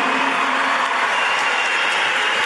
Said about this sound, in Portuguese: Eu queria pedir uma salva de palmas a todos os alunos do CEPOP do Brasil.